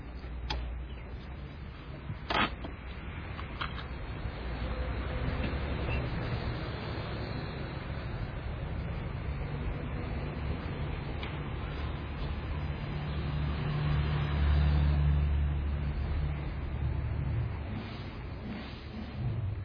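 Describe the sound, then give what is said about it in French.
A steady low rumble of a car on the move, heard as continuous road and engine noise from inside, with a few faint clicks and ticks and no one talking. “mais là, il roule. Il roule. En voiture.”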